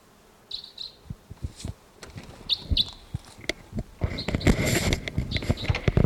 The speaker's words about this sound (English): Must be perched somewhere about 150 or 200 yards away. Stop. It's a bird. There's tooping in the distance as well. I thought a crossbill may have just swooped in here somewhere.